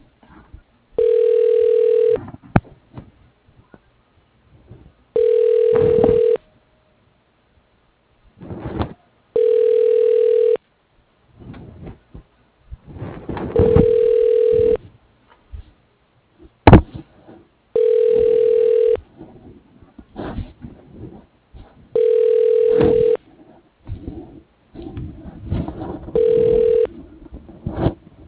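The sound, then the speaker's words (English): A telephone ringback tone repeats about seven times in steady, evenly spaced bursts, each roughly a second long, with brief gaps and faint line noise between rings, as a call to a law office is being transferred. “Your call is being transferred.”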